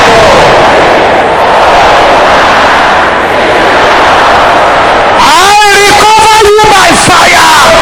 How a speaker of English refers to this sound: Can I hear the sisters shouting this loud and clear? Brothers, shout it loud and clear. Something is happening already. Everybody shouting is loud and clear.